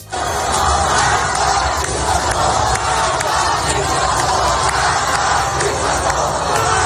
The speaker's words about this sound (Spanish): Este es el grito de libertad de miles y miles de persas, de iraníes, desafiando a su régimen en una nueva manifestación hace solo unas horas en la capital, en Teherán, en la calle, a cuerpo limpio.